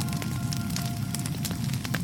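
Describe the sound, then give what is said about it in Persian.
A fire for melting down jewelry and ornaments crackles steadily, its low roar underpinning scattered sharp pops and snaps, continuous throughout with no voices. “گفتند ما از روی اختیار از وعده تو تخلف نکردیم، اما با وسوسه های سامری دیدیم بهتر است این زیورالات و تلاجاتی را که از فرعونیان همراه داریم در آتشی ذوب کنیم.”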